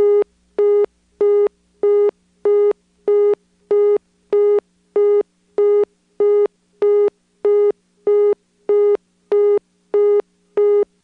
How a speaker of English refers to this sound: When the outgoing lines are busy and you dial 9, you get a busy signal, which times out to another busy signal. Now it's really starting to sound like North Electric.